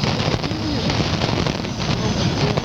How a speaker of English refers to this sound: Just the static of a summer night and a lot of noise. Not much on 810 right now, is there?